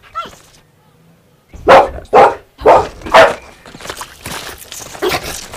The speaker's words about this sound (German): Hey, wo kommt der Hund her?